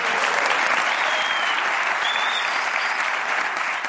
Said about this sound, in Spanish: A ver, un aplauso para el vestuario que haya.